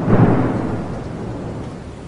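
A deep rumble of thunder swells at the start and slowly fades into a steady roar of heavy rain, loud and close, with no voices.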